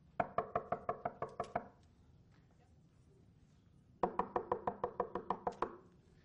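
Two bursts of rapid, firm knocking on wood, each about eight or nine sharp raps, separated by a couple of seconds of quiet room tone. The knocks are clear, with no talking.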